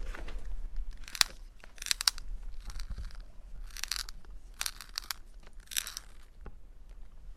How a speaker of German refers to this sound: Nico spitzt seinen Stift.